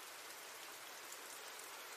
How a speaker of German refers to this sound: Der Regen fiel nun nicht länger im ganzen Wohnzimmer, sondern hatte sich nur noch über Jenny konzentriert